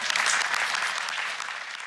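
Steady audience applause, a dense crackle of many hands clapping at once, sustained for the whole stretch and tapering only slightly toward the end, with no voices over it.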